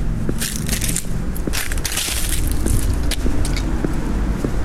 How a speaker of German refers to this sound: Ja, es ist Gehen durch Herbstlaub auf einer asphaltierten Straße, um genau zu sein. Der Untergrund spielt ja auch nochmal eine Rolle.